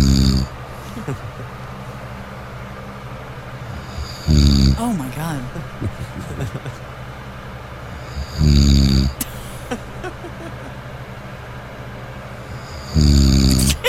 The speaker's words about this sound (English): She couldn't get to sleep because I was doing this. This is actually me snoring.